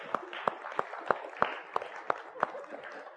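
A round of crowd applause: a dense wash of clapping with about ten sharp, evenly spaced claps standing out in a steady rhythm, moderately loud throughout.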